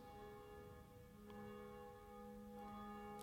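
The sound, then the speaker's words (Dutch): A church tower bell named Jacobus, one of the bells alongside Barbara and Blasius, ringing steadily at 12 noon, its deep tones layered with long sustained metallic overtones, with fresh strikes sounding at regular intervals and no voices. “In de klokkentoren, die zich duidelijk laat horen, wel, daar is één van die klokken, die heet Jacobus, naast Barbara en Blasius, en die horen wij momenteel luiden.”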